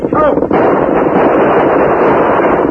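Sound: gunfire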